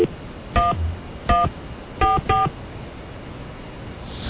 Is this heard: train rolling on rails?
no